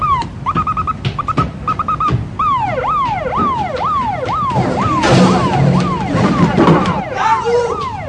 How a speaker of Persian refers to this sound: پلیسا آژیر ماشینشون رو به صدا در میارن.